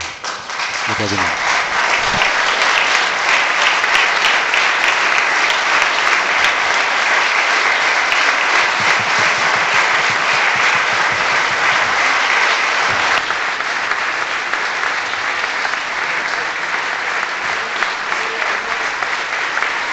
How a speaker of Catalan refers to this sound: Doncs amb aquests aplaudiments emotius finalitza l'acte d'homenatge a l'exalcalde socialista Josep Maria Recasens, un acte molt emotiu que hem vist aquí al saó de plens de l'Ajuntament,